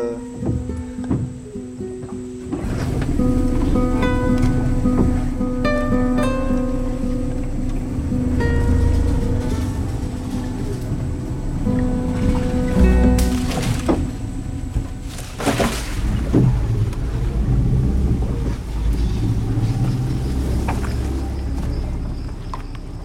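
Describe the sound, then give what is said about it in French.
A boat motor is restarted and runs steadily, a loud droning hum with a constant pitch, broken by a few knocks and splashy bumps partway through. No one speaks. “Bon, bah là, je remets le moteur, hein, on va casser un peu la tranquillité.”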